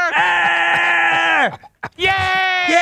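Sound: man screaming loudly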